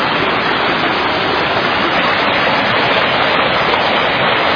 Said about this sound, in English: And the creek is roaring, as you can see, as always. We've done a lot of cleaning on the creek.